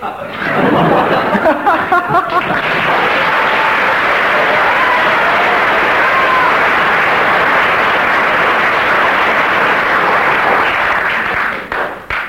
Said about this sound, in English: That's one mark per second of applause.